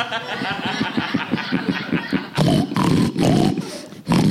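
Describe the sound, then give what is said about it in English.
A live pig grunts in a quick, rhythmic series of snorts, then breaks into loud, harsh, drawn-out squeals that come in two long bursts separated by a brief pause. “The pig's saying your name.”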